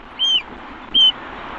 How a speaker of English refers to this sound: Yeah, so this camera is focused on all the birds that have come here for the winter months for refuge and in search of food. Where have these birds come from? Oh, they've come from all over Europe.